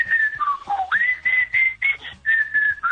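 A person whistles a melody up close, a clear bright tone sliding up and down between held notes in short phrases, with faint background noise and no talking.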